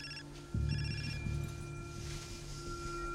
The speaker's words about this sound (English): His phone rings.